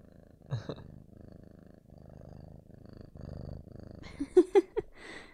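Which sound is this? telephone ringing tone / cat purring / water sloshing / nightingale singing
cat purring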